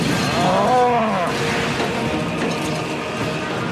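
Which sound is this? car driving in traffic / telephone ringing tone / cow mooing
cow mooing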